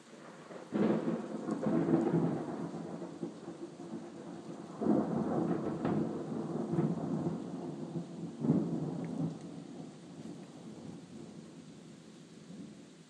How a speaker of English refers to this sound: Brilliant claps of thunder, I must say. Wow. Rain's dying away. A bit. The thunder seems moving off.